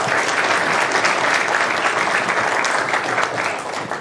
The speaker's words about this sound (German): Bitte ein bisschen Applaus für ihn und dann können wir starten.